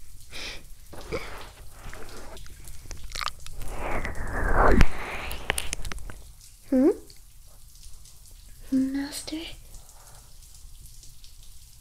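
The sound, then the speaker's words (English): Steady running shower water patters and splashes throughout, with a louder gushing surge midway, while a woman speaks briefly over it in a couple of short, rising phrases. “We should have more showers like this together, Master.”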